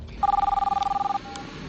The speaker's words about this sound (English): In the basement, Maris picks up the phone and puts out a call to Clark.